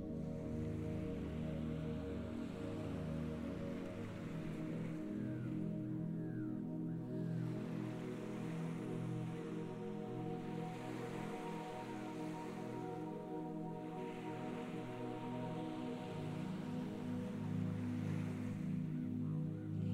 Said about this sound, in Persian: صدای امواج دریا جسم و ذهنتون رو آروم میکنه.